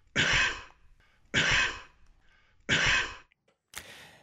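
A 54-year-old Covid-positive man coughs three times in strong, evenly spaced bursts, loud, followed by a shorter, harsher fourth cough at the end, with brief quiet breaths in between.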